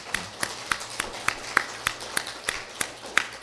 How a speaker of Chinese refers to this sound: 我们给她这样的热烈的鼓掌